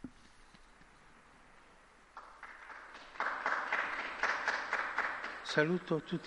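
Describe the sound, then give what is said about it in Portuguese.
A crowd applauds a newly beatified man, the applause swelling from a soft patter to a loud, steady clatter of many hands, with a voice or cheer briefly rising over it near the end. “Um aplauso ao novo Beato.”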